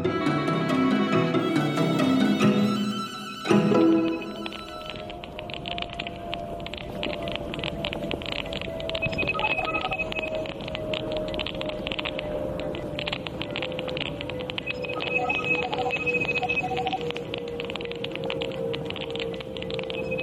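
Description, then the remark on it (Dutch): Electronic beeps and sustained whining tones, picked up through the hearing aid of British science journalist Frank Swain during a walk in his neighbourhood, crackle over a steady wash of windy, hissing noise. A brief burst of harmonic tones opens before the quick, irregular blips continue. “Mysterieuze buitenaardse bliepjes? Nee, dit is het geluid dat de Britse wetenschapsjournalist Frank Swain opnam tijdens een wandeling in zijn buurt.”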